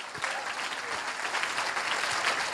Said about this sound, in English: Now you can clap the Lord. Hallelujah.